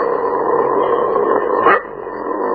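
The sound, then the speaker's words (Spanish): A dog growls in one steady, rough rumble that holds for under two seconds, then eases into a quieter, thinner tail with no voices present. “Ahora bien, otra forma de expresarse es a través de los gruñidos.”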